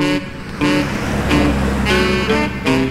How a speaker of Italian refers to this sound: Quanto traffico oggi. Sono stanco di guidare.